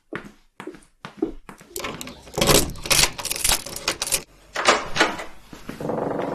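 A bunch of room keys, handed over to guests at a simple lodging, jingles and rattles in a few quick bursts, moderately loud, with brief pauses between the clinks and no talking.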